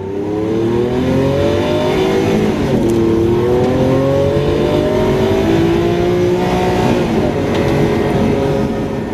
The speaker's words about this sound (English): There have been several reported cases of teenagers with perfect pitch learning to drive by using the pitch of the engine revs to learn when to change gear, rather than observing the rev counter. Engines can make a discernible pitch